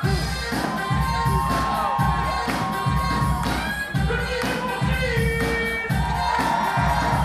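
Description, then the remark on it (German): A loud crowd cheers and shouts continuously at a breakdance battle in a packed hall of a cultural centre in the north of Paris, over a steady, thumping beat that pulses throughout. “Egal, ob gerade Männer oder Frauen tanzen, die Halle im Kulturzentrum Saint-Quatre im Norden von Paris tobt.”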